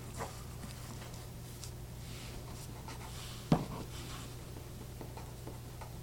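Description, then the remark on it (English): A pen scratches across paper in short, quick strokes, like a signature being written, with one sharp tap partway through. A low steady hum sits underneath, and no one speaks. “But I do need your signature on that.”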